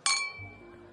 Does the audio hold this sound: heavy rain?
no